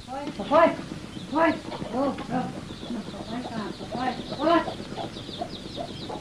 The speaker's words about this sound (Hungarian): Hajt! Itt vannak a libák!